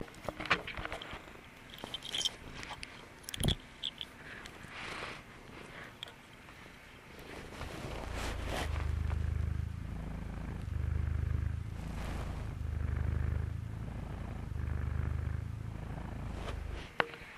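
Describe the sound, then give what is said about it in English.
A big gray tabby cat, about 15 pounds and 3 years old, purrs in a low, steady rumble that swells and eases in rhythmic cycles, preceded by a few seconds of soft rustling and handling noises. “And I'm gonna try to record him purring for you.”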